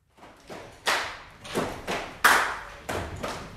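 A series of sharp hand claps in an uneven rhythm, about eight bright, snappy slaps with short decays, some louder than others, with no voices.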